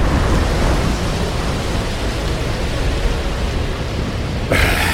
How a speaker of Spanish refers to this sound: Sí, menuda tormenta.